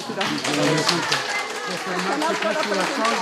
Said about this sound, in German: Beifall für Benedikt. Nur wenige Meter von den Gleisen des römischen Bahnhofs entfernt trifft der Papst auf Menschen, die sonst nicht so sehr im Mittelpunkt stehen.